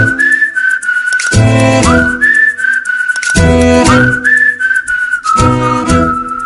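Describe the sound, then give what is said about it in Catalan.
A person whistles a steady, sustained tune, the clear tone held and gliding between notes, with brief bursts of other sound breaking in underneath at intervals. “Sí, estic xiulant, amics.”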